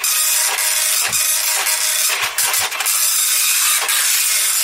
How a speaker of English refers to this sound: Quite a slow printer,